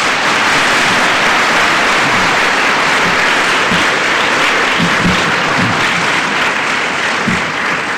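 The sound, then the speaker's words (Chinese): Loud, sustained applause from a large crowd at a Christian evangelistic meeting, a dense continuous wash of clapping that holds steady for the whole stretch with no voices breaking through. “你们这里鼓掌是这一次到各地区最热烈的。”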